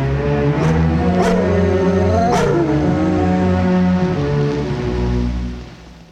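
Dogs bark a few times, sharp and spaced apart, over a steady low rumbling drone like an engine; no one speaks and the drone fades out at the end.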